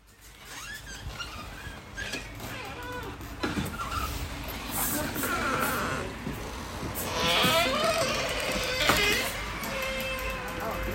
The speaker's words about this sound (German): So, ihr habt schon mal gehört, alte Holztür, knarrt, alte Holzböden und genau, wir sind jetzt in dieser alten Apotheke drin.